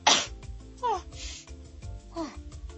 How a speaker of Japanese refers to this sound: くしゃみ実況。 花粉すごいよね。 花粉すごいです。